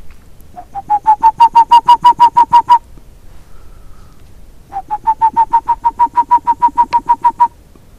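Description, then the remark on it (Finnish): A person whistles an imitation of a boreal owl's call toward a forest islet where boreal owls nest in holes of dead pine snags, around 11 o'clock, to see if one answers: two quick bursts of about fifteen evenly spaced, mid-pitched hoots, each burst rising slightly at the start, separated by a short pause. “Jos sillä vähän viheltää, niin tulisiko sieltä minkäänlaista vastausta?”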